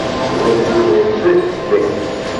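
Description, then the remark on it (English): A man's voice mimics a dog barking, giving about four quick, evenly spaced woofs at moderate loudness, with a faint room murmur behind. “Philo went over there and he said, roof, roof, roof, roof.”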